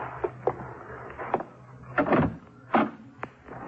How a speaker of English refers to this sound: Open the door. And get in the closet.